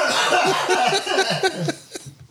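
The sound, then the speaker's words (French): A run of quick, throaty coughing bursts, about eight of them in a choppy rhythm, moderately loud, breathy and voiced, tapering off at the end with no talking. “Achèves-tu de tousser?”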